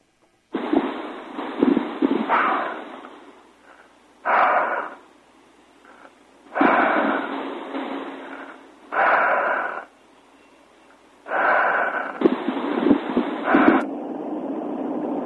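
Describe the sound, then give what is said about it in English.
Heavy, rasping breaths over a narrow, tinny phone line on a voicemail message left at 1:30 a.m.: about six noisy inhale-exhale bursts of uneven length, separated by short pauses, fairly loud, with no talking. “All I heard was breathing.”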